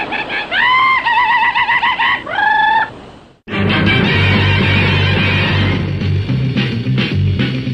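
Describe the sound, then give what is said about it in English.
Loud, close bird calls, two long wavering crow-like cries in quick succession, then a brief silence before an abrupt burst of dense, busy sound fills the rest. “Sometimes those bird calls and cat calls and whistles right behind your door.”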